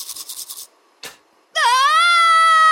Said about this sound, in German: Mit Schreien stopfst du kein Zahnfleischbluten.